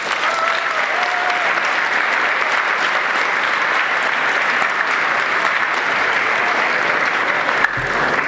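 Many people clap steadily in sustained applause for a student's gold pen award and national first place, a dense, even patter of many hands that holds at the same loudness throughout before cutting off abruptly near the end.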